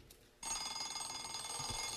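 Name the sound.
alarm clock ringing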